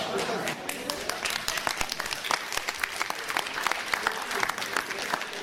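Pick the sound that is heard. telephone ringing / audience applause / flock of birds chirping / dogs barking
audience applause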